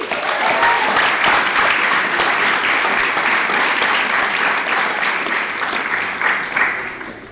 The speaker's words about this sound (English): Give our third speaker a big round of applause.